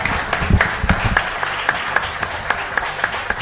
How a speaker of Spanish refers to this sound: Un aplauso os pido para ellos.